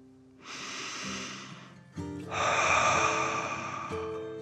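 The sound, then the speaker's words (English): A slow, deep breath drawn in for about a second and a half, a brief pause, then a longer, louder breath pushed out, with no talking. “So the dragon took a deep breath in and out.”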